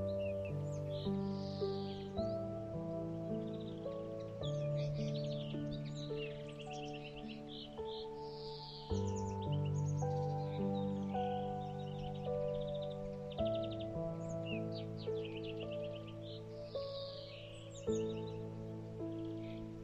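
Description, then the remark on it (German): Lively chirps and tweets of young birds in an apple tree flutter on and off over a steady, tuneful music bed, several calls overlapping throughout at moderate loudness, with no one speaking. “Fröhlich zwitschern sie miteinander auf dem Apfelbaum herum.”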